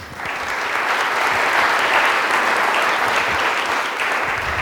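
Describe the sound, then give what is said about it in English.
An audience breaks into sustained, loud applause welcoming a professor introduced as a speaker, a dense steady patter of many hands clapping that swells quickly and holds for several seconds without any talking. “You should clap after the session is over, not before.”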